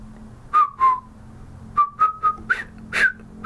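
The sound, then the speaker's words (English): Someone whistles a short tune, a string of clear piping notes in quick bursts, two notes, a pause, then several more rising and falling, with no talking. “Imagine I did the Bridge Over the River Kai whistling thing, but I'm not very good at whistling”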